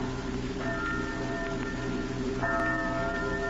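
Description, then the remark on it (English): Church bells ring late at night with two resonant strikes about two seconds apart, each tone lingering and fading over a steady rain-like hiss, with no voices. “Church bells. Why do they ring so late at night?”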